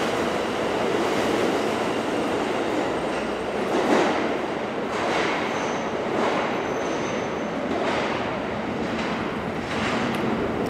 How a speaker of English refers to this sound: Some atmospherics here since we've just descended into the depths of the New York subway system on an August day. Uh-huh. It is not the most pleasant place to be